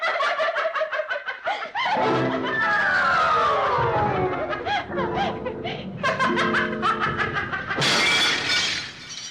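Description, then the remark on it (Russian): Ice shatters with a bright, crackling burst of tinkling shards, mixed with sliding whistly tones and high, giggling laughter-like squeals, ending in a sharp, glittering crash. “Я заклинаю вас, осколки ледяные.”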